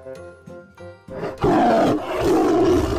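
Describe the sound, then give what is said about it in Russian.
A tiger named Lili lets out a loud, drawn-out roar that swells after a brief musical intro and stays rough, sustained and powerful, with no talking over it. “Помогите, тигр!”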